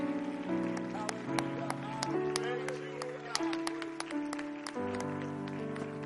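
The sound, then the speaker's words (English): An audience at a church service claps their hands in praise in a steady rhythm over sustained organ or keyboard chords, the sharp claps cutting through the music at moderate volume. “Would you clap your hands before you're seated and just give them another great praise?”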